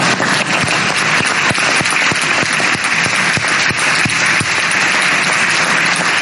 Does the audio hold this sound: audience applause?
yes